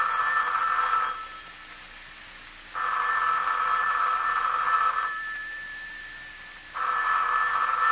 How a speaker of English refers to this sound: the telephone's ringing. Aren't you going to answer it?